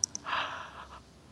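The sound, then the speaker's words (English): A person yawns once, a soft, breathy, drawn-out exhale lasting under a second, preceded by a couple of faint clicks. “It's making me yawn.”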